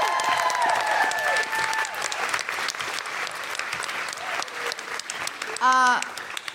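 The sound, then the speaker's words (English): Loud, sustained applause and cheering from a large audience at Kings Place for the show's producer, Tom Selinsky, filling the whole stretch, with shrill whistles early on and a single voice whooping near the end. “And can I just have a huge cheer for Tom Selinsky, who's produced Woo!”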